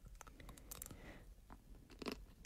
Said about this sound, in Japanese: お、ポリポリ、 うん、外がチョコレートコーヒーが入ってる、 なんですって そ、うん、 外も濃厚な抹茶チョコでコーティングされてます、 うんうん、すごい抹茶だこれ。